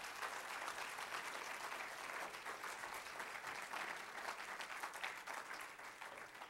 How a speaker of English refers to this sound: Let's clap our hands unto the Lord and bless his name.